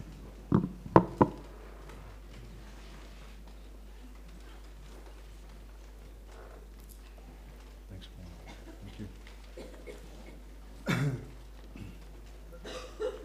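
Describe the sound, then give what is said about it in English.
A single loud cough blasts into a microphone near the end as a speaker starts at the mic, preceded by a few sharp knocks or mic bumps at the start and quiet in between. “I suppose hearing myself cough means I'm on.”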